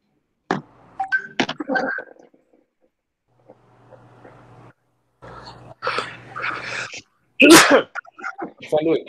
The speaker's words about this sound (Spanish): Yo pensé que lo tenía en silencio. Qué bueno que se lo estornudé.